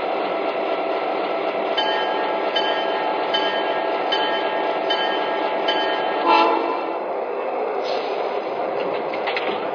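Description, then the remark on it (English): A passenger train, number 21 on track 1, departing for Los Angeles, rumbles steadily at a station platform, a continuous loud mechanical drone with faint tonal whines and a brief clank partway through. No voices. “Now departing for Los Angeles on track 1. Train number 21, the El Capitan.”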